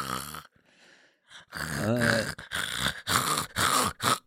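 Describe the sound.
A person imitates a dog snoring, as the pet dog Dingo might snore, with a series of rough, throaty snorts and grunts in uneven bursts, loud and raspy, after a brief opening vocal sound and a quiet breathy pause.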